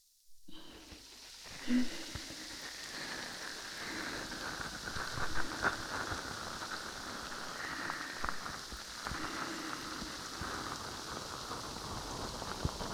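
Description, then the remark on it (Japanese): Foam from a new ear-cleaning product crackles and fizzes at the ear in a dense, continuous stream of tiny pops, starting after a brief moment of silence and holding steady, with occasional louder bursts and no talking. “泡を手に取って、これくらいかな。”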